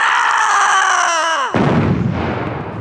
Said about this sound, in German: die Hexe ist explodiert. Wuff! Da haben wir ja noch mal Glück gehabt. Weil die Hexe sich so geärgert hat, ist sie geplatzt.